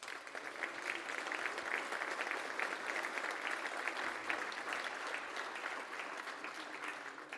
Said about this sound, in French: Je voudrais féliciter Isabelle Le Callennec pour cette très brillante élection. On peut l'applaudir.